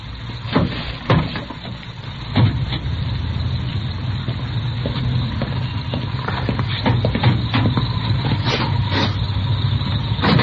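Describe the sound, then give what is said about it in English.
A car hood being opened to check the engine number: a few sharp metallic clunks and rattles, scattered irregularly over a steady low rumble. “Yeah, I'll get the hood with you.”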